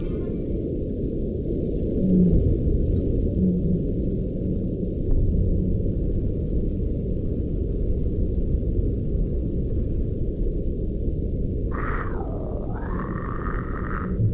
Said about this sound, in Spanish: pero ¿cómo suena el mar desde adentro? Claro, hay vida abajo del mar. ¿Escuchamos?